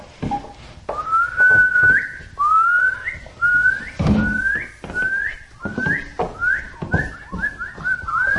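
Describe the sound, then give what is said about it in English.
A person whistles a repeated upward-gliding note about ten times in a steady rhythm, fairly loud, with some soft clattering and rustling in between. “Whistle. They whistle, butterflies whistle.”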